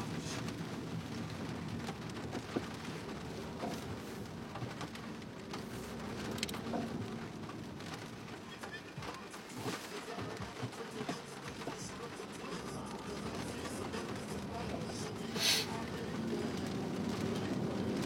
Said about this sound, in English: It's just raining now. Yeah, this is legitimate rain.